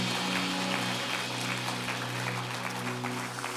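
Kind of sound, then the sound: crowd, audience clapping hands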